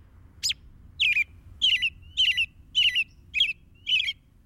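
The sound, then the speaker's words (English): An American robin sings a run of seven short, clear caroling phrases in a steady rhythm, each slightly different, fairly loud over a soft low rumble. “In each song, a robin sings a varied selection from a repertoire of 10 to 20 different caroling phrases.”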